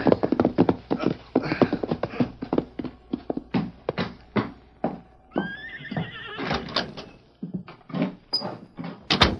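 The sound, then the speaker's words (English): Horse hooves clop in an uneven walking rhythm, slowing as the rider reins the horse up in front of a bank in Blue Mesa, with a short whinny partway through before a few final shuffling steps. “Tommy Welch reined up his horse in front of the Cattleman's Bank in Blue Mesa”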